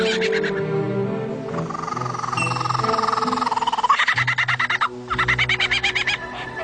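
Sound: bird call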